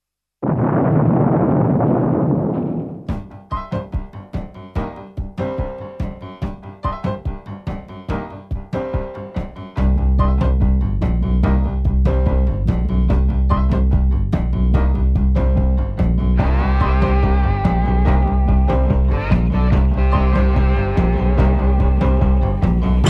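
A loud, rumbling explosion fills the first few seconds, then a rock song kicks in with steady drums, bass and bright guitar, growing fuller and denser partway through. No voices are heard.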